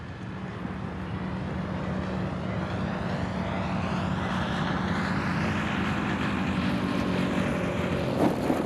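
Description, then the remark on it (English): A model airplane's small propeller engine drones steadily and loudly throughout as it comes in to land, its pitch wavering and rising slightly as it passes by, with a rough buzzing whine and no voices. “To fly upside down. The model in for a perfect landing.”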